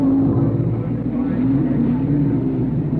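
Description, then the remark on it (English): A race car engine drones steadily and loudly for the whole stretch, its pitch wavering slightly as it holds a constant hum, with a muffled, band-limited quality. “engine.”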